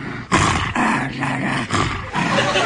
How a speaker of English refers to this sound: he jumped up on my knee and he just started growling a bit in his throat